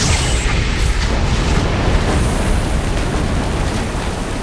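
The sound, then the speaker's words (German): A loud explosion with a heavy low boom that rolls on as a sustained, rumbling roar for several seconds, dense and crackling throughout, with no voices. “Zwei Zauberer hatten die Explosion gehört, eilten durch die breite Doppeltür, rissen die Augen auf und gelangten zu einem ebenso offensichtlichen wie falschen Schluss.”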